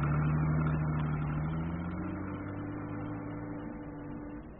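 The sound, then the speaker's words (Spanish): A car engine hums steadily, its pitch shifting upward as it pulls away along the docks, then slowly fading as the car drives off. No one speaks. “Y lo miraban iniciar su marcha por los muelles.”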